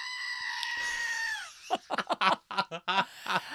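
A squeezed plastic screaming goat toy lets out one long, loud, shrill bleat that holds steady and then sags downward, followed immediately by voices in short bursts.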